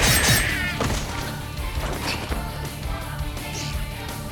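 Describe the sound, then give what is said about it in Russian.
A sword triple strike lands in a rapid series of three sharp, metallic impacts, loud, with a bright ringing clash over a dense, noisy background of swishing and rumble. “Искусство меча! Тройной удар!”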